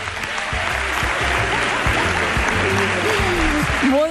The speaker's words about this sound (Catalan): Si us plau, un aplaudiment ben fort per Bravo. Tots ells. Bravo.